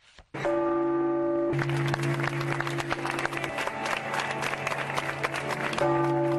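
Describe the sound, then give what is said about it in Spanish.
The bells of the Cathedral of Havana, Cuba, ring with a steady sustained hum while a crowd gives loud, continuous applause as a last farewell to Cardinal Jaime Ortega, the clapping dense and lasting throughout as the bells keep sounding. “Con el sonar de las campanas de la Catedral de La Habana y un cerrado aplauso, los cubanos le dieron el último adiós al cardenal Jaime Ortega Yaramino, que falleció a los 82 años el pasado viernes 26.”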